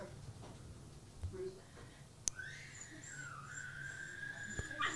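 dog whimpering

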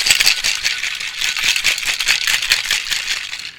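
cocktail shaker being shaken

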